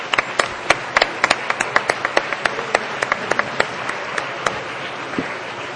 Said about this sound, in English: And let's give them a round of applause.